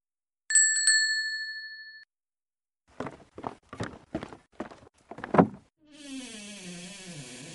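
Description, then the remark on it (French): A bright chime rings out, then about six or seven sharp knocks on a door land in a steady sequence, followed by a wavering tonal sound at the end. “Mais toc, toc, toc. Qui frappe à la porte?”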